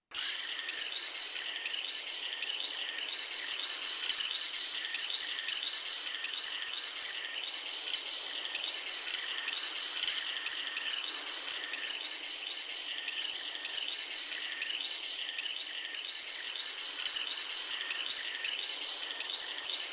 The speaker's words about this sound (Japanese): お待たせいたしました。それでは、お耳の洗浄を始めていきます。まずはこちらのお耳から。失礼します。